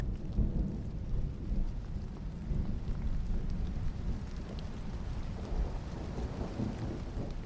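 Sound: rain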